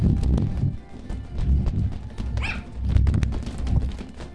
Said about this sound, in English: Sound of a balloon being bounced back and forward. You want to do some more bouncing? I can do this.